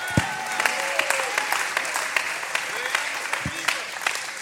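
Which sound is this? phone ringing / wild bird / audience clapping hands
audience clapping hands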